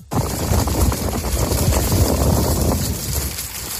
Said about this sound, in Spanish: pero minutos después en la capital sonaba esta tormenta.